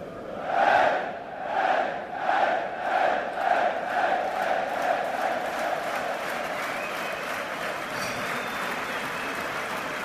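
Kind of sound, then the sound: crowd, stadium crowd ovation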